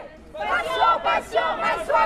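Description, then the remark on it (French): A crowd of French medical interns shouting as they march in a protest procession, loud overlapping voices rising in several surges with brief dips between, a dense mass of raised cries throughout. “Ils hurlent pour se faire entendre, mais en réalité, il suffit de les regarder pour comprendre.”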